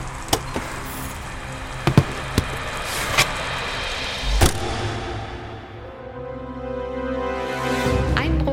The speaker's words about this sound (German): Zur gleichen Zeit fährt ein Polizeistreifenwagen durch Gotha und kommt auch am Schloss Friedenstein vorbei. Schöner Wagen. Der blaue? Was ist denn das? Na, ein P70. Super selten.